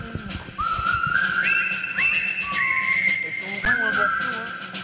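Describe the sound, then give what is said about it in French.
A person whistles a bright, cheerful melody linked to the film La 7e compagnie, with clear sustained and sliding notes, fairly loud, over a low background hum with a faint voice or two underneath. “Oui, mais là, on sentait que votre manière de siffler, c'était directement la 7e compagnie.”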